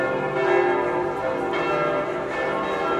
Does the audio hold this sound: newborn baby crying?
no